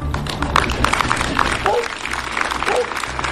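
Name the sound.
applause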